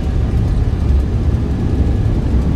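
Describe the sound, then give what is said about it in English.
A loud, steady jet engine roar of an airliner's reverse thrust after touchdown on landing, rumbling deep and continuous for a few seconds with no voices. “Brakes in first thrust, sir.”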